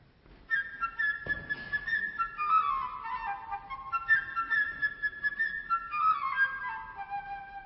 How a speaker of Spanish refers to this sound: Pedro y el Lobo es un cuento sinfónico compuesto por Sergei Prokofiev. El pájaro por la flauta.